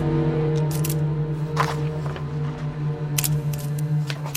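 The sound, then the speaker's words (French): The tiny shutter of a spy camera hidden in a lighter clicks several times at uneven intervals, crisp, as a document is photographed, over a steady low electrical hum, with no talking. “Kuklinski prend alors le risque de sortir de sa poche son briquet appareil photo et il commence à photographier le document.”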